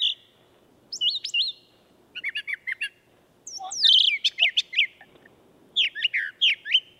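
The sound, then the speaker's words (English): A brown thrasher sings a series of varied, high chirping phrases in quick bursts, with brief pauses between groups. The song is clear, with no voices. “Lee's got a brown thrasher. Okay, let's see if we can find that.”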